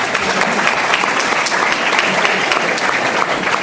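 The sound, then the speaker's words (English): A crowd applauds steadily, with dense overlapping hand claps forming a loud, continuous wash of sound that holds for several seconds without a break. “Round of applause.”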